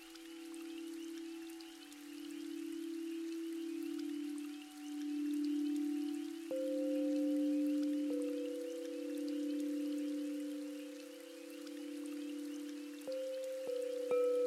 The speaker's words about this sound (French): Cette pluie amène au loin toutes vos préoccupations.